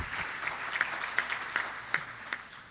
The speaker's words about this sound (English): You can clap for the video. That's okay.